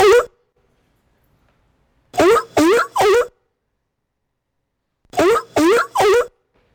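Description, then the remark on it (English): A seal sound effect played by a sprite in a coding program barks in loud, harsh, honking bursts: a single bark, then two quick sets of three separated by silence, with no talking. “how do I stop this seal from barking?”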